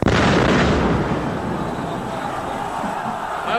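explosion

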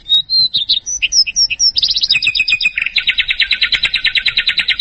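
birdsong

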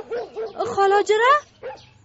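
dog barking and whimpering

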